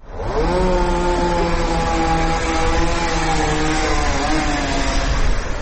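A chainsaw runs loud for several seconds, its steady buzzing whine dipping and wavering in pitch as greenery workers cut branches of plane trees on Kraljice Marije Street in central Belgrade, near the Faculty of Mechanical Engineering; no voices.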